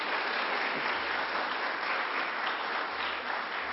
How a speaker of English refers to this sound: We can go ahead and give her a round of applause anyway. There you go.